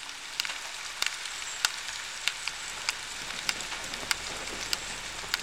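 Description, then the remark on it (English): Rain falls steadily in a soft, crackling hiss, with sharp individual drops ticking out irregularly every half second or so, in the soundscape piece by an artist, from a compilation album. No voices. “And this piece that we're listening to is called …, and it's from a compilation album released by Irsé Music called ….”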